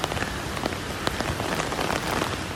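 Steady rain falls in fire-threatened Australia, pattering on a hard surface in a dense, continuous hiss of drops with occasional sharper splashes standing out, even in loudness throughout, with no voices.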